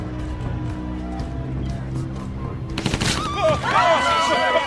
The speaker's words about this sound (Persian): تیراندازی شد.